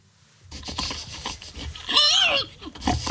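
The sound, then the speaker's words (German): A contestant at the very first pig-squealing contest, in Estonia, loudly imitates a squealing pig: a series of grunting, snorting squeals rising to a shrill, wavering squeal before trailing off into more snorts, clear. “Es war kein Schwein, nein, es war ein Mensch. Und zwar ein Teilnehmer beim allerersten Schweinequieken-Wettbewerb.”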